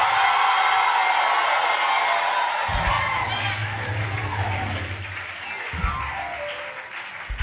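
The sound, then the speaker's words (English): A large crowd screams and cheers loudly and continuously, a dense wall of voices, with a low rumbling undertone joining midway. “Somebody scream.”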